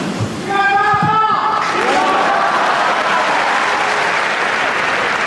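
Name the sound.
crowd cheering and applauding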